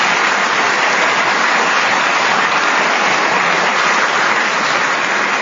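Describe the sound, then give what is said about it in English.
A studio audience claps steadily for several seconds, a dense, even wash of many hands, loud throughout, with no voices over it. “We didn't get a round of applause when that happened.”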